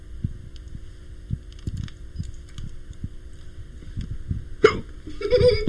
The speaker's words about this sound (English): Okay, I think I got enough hiccups.